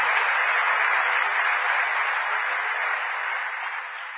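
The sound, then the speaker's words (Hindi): A crowd claps loudly as a welcome, a dense wash of many hands applauding without pause for about four seconds, fading slightly toward the end, with no voices over it. “एक बार जोरदार तालियां बजा के स्वागत।”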